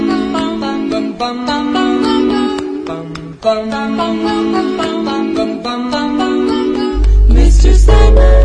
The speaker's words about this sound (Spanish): Esta musiquita nos indica que ya está con nosotros nuestra columnista de cine.